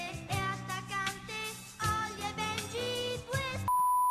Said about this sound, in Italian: Ho un bip ovunque.